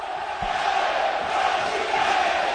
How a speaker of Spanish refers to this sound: Unánimemente todo el estadio gritando Cholo Simeone, y él les devuelve cariño con aplausos.